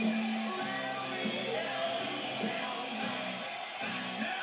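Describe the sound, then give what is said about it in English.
A man, crying, strains his voice into a loud, ragged yell while singing a song, sustained tones breaking into shouts over a dense, steady musical backing with a busy, crowded feel. “He's crying and he's still screaming during the song.”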